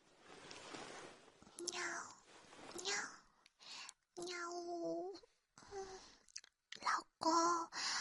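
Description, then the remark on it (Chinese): A breathy voice does a string of imitation cat meows, around five drawn-out mews with rising and falling pitch, separated by short pauses and soft whispery noises. “要我学猫叫吗？”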